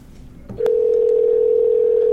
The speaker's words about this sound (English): Here we go. Phone is ringing.